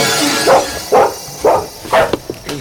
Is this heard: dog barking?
yes